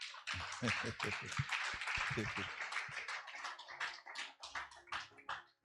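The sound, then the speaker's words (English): A church audience claps for the choir after worship in a steady, dense burst of applause that fills the room for several seconds, with some voices mixed in underneath before it tapers off. “Why don't you clap properly for them?”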